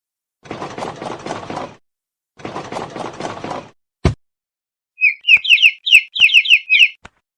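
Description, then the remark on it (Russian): Two scratchy, rattling bursts and a sharp click come first, followed by a quick run of high, thin chick peeps, about a dozen, repeated close up with nobody talking. “Цыпленок.”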